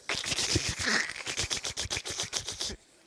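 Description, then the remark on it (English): A group imitates crackling fire, making a dense, irregular burst of sharp snapping and clicking noises that runs for a few seconds and then stops abruptly. No one speaks. “And what does fire sound like? Kind of crackle, right? So go like this.”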